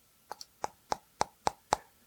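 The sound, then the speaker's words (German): Fingernail tapping on anti-glare screen film fitted to an Oricon 650T against sun glare: seven short, hollow, plasticky clicks, a quick double tap followed by an even rhythm that grows slightly louder, with no voices. “Also ich rede jetzt hier von meinem Oricon 650T, wo ich so eine schöne, ich habe mir so eine entspiegelte Folie raufgemacht, damit die Sonne mich nicht blendet, ne? Aber ganz ehrlich, hier hör mal am Fingernagel.”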